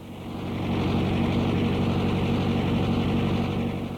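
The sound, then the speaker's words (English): A tractor engine roars, a loud, steady low-pitched drone that swells in over the first half second and then holds constant, with no voices, as it mows grass between the trees on a 35-acre Christmas tree farm outside Albany, New York, on a sunny late-fall day. “A tractor roars ahead on the Coftry Christmas tree farm on a sunny day in late fall.”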